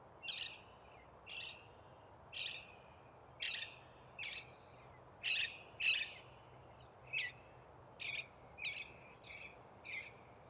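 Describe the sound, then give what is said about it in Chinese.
Birds call outdoors in a steady series of sharp, bright chirps, about a dozen spaced roughly a second apart, over a faint low background hum, with no talking. “你看，刚才周围有很多鸟叫，我们能否完全的去听到这些鸟叫，不被自我所阻隔，不被各种的想法所阻隔？”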